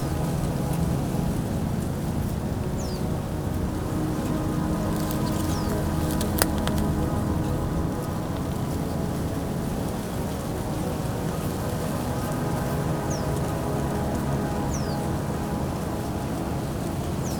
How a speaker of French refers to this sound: Le chant discret des oiseaux de mer.